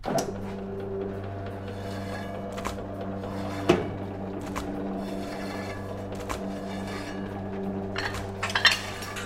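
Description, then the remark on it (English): A knife slices through meat on a cutting board, with sharp, evenly spaced strokes landing about once a second over a steady low kitchen hum, cutting seven pieces. No one speaks. “I'm gonna slice some meat here.”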